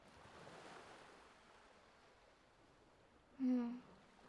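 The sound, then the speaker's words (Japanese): Steady, soft wash of ocean surf rolling onto the shore late at night, a continuous hiss that swells slightly early on, with a brief louder tonal sound cutting in near the end. “面白くないのに、こんな時間に海なんか見てるんだ。”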